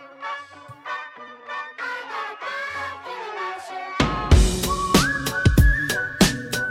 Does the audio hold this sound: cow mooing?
no